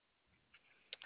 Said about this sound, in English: Okay, I'm just typing this up for you. Yeah, so just give me one moment.